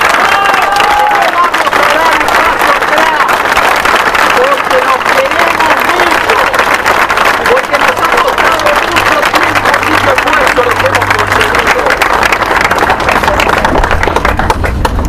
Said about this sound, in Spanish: En primer lugar, me parece que nos merecemos un aplauso de afecto, un aplauso demostrativo de que nos queremos mucho.